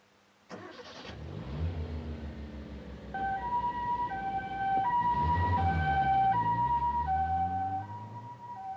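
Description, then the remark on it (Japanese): An ambulance heading to a hospital sounds its siren, alternating steadily between two tones and rising in over a loud vehicle engine rumble, continuing to the end. No one speaks. “病院に向かう救急車の中で涼子は息を引き取りました”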